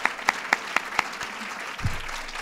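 Audience applause: sharp, evenly spaced claps ring out in a steady rhythm for about a second, then thin into a low murmur, with a dull low thump near the end.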